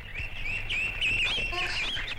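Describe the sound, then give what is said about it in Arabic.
A crow caws in a drawn-out, raspy call that wavers for a couple of seconds, fairly loud, with no one talking. “حينها سمع صوتا، كان صوت الغراب.”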